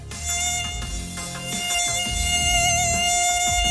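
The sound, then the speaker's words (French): A steady, high-pitched mosquito whine hovers for several seconds, its sharp tonal buzz wavering slightly over a low rumbling background. “Ah, c'est le moustique.”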